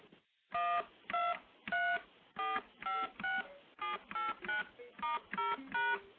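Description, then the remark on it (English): A run of standard touch-tone dialing beeps, about a dozen short steady dual-pitched tones in a brisk, even sequence, each key press sounding a slightly different chord, with no voices. “Now, just for comparison, let me play what all the standard touch tones sound like.”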